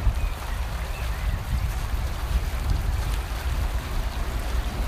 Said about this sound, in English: Don't know whether you can hear the water. Probably not, for the sound of the traffic. Let's go a bit closer.